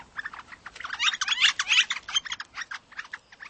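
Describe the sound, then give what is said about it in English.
A young northern flicker fledgling calls in a rapid, steady series of scratchy, high chirps lasting a few seconds, fairly loud, with no other sounds around it. “The best thing you can do for the young flicker, and other fledgling birds too, is to give the bird some space.”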